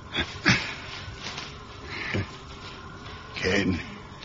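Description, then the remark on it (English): Labored, wheezing breathing of a sick man who is awake and has a rising temperature: a few ragged, rasping breaths come at uneven intervals, with strained, throaty noise between them and no clear words. “No, he's awake, but his breathing's gone all funny.”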